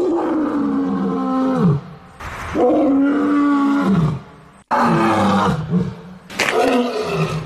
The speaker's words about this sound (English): Because lions, apparently, I don't want to go test this out myself in the wild, but lions apparently have quite a weak roar. Do you want to hear it?